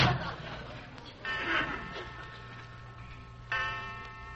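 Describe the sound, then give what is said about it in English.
A clock ticks steadily toward midnight at a moderate volume over a low, constant hum, with brief swells of brighter background noise coming and going. “12 o'clock.”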